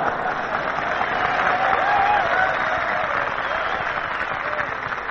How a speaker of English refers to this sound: Fellas, you can keep on applauding because here she is, radio's number one singer, lovely ….